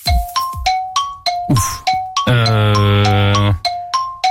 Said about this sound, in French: Il y avait encore un peu du gong. On est sur une fin de gong. Fin de gong, on est sur une fin de gong, mais après il faut que ce soit la bonne réponse.